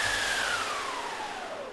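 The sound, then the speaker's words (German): An orchestral wind machine makes a steady rushing whoosh of storm wind, with a howling tone that slowly slides downward. It is fairly loud, and no one speaks. “Ein Sturm, da wissen wir schon, wer das macht.”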